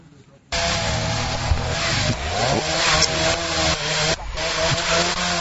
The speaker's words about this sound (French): Nous sommes en face d'une tronçonneuse qui abat des arbres sur une patte au bord de la route à Libina, à 15 km de Mongualou Centre. Par terre, il y a des troncs d'arbres déjà coupés.